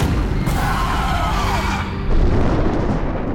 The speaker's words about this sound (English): Before he could go on, the booming crash of thunder filled the air.